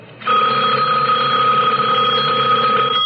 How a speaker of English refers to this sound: The sudden ring of the telephone startled me.